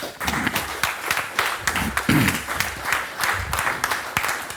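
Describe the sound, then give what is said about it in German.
An audience applauds a speaker at the end of a talk, dense overlapping claps forming a continuous patter with a few louder bursts, sustained at moderate volume throughout. “Ich weiß noch nicht, wie wir ihm dann den zweiten Applaus geben.”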